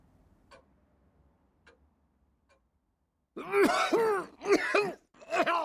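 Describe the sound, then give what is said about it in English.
After a few seconds of faint, sparse ticking, a man lets out a loud, rough cough followed by two more hacking bursts in quick succession. “He's coughing again. He spits it out.”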